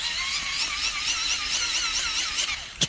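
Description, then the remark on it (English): A wind-up torch being cranked: a steady, high-pitched mechanical whirring that wobbles rhythmically with each turn of the handle, ending in a brief sharp click. No one speaks. “We've got a wind-up torch. It's a wind-up torch.”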